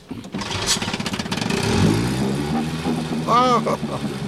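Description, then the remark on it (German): A small boat motor coughs and catches, then settles into a steady buzzing drone, with a brief rising whine partway through and a voice speaking over it, as an old man pats the motor and steers the boat toward a bay. “Großvater tätschelte den Motor, brummte zufrieden und steuerte auf die Finkelbucht zu.”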